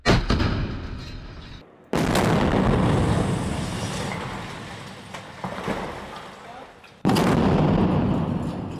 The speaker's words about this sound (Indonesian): Suara ledakan yang baru saja Anda dengar adalah suara serangan rudal yang diluncurkan tentara Israel ke bangunan apartemen penduduk di Gaza.